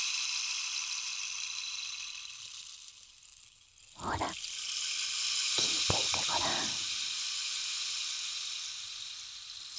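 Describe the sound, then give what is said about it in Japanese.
A rainstick pours out a steady, hissing patter like falling rain, continuous and fairly soft throughout, while a voice speaks briefly over it partway through. “綺麗な音。まるで雨音のようだろう。これはレインスティック。”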